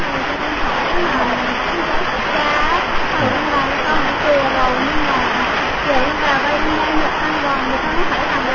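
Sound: heavy rain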